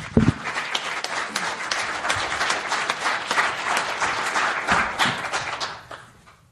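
A crowd applauds steadily for several seconds, a dense wash of many hands clapping that holds at an even level before fading out toward the end.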